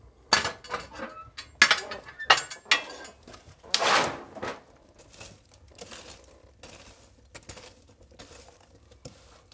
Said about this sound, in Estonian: Ja siis see sumin, mis praegu taustaks kostab, see on ahi, mis vajab segamist.